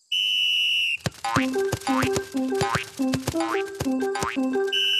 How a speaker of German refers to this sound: Die Trainerin lässt die Mannschaft dribbeln, Kopfbälle üben und aufs Tor schießen.